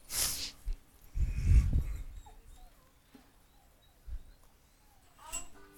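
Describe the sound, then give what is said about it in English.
A dog whines and yips softly a few times, with scattered thumps and faint bird-like chirps. “Oh, no, he wants to go see that dog.”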